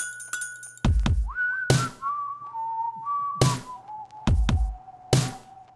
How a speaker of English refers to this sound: See, now this here is what the kids these days call dubstep. In dubstep, it always starts with a whistle, just like this.